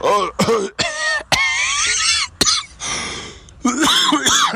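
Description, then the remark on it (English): A few short, sharp coughs and throat-clearing sounds from a person with a cough break up hoarse, strained vocal noises, fairly loud, with brief pauses between bursts. “I've got a cough.”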